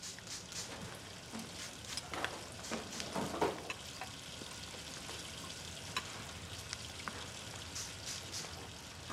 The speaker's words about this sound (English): After school, Megan washes dishes and Lisa mists water onto the plant with a spray bottle.